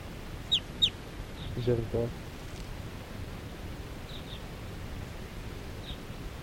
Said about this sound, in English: And the wild birds, four wild birds in the flock are calling. They're gonna take off.